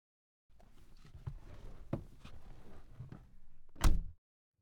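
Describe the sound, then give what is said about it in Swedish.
A few seconds of shuffling and light knocks, like someone moving about, end in one solid thud as a door swings shut behind a mother going out through it. “Lycka till och kom ihåg att ha kul, ropade mamma på vägen ut genom dörren.”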